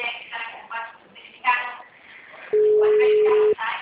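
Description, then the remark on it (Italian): A telephone busy tone sounds as one loud, steady electronic beep lasting about a second, cutting in over a woman's recorded announcement in Portuguese saying the phone is busy and to try again later. “O telefone encontra-se ocupado. Por favor, tente mais tarde.”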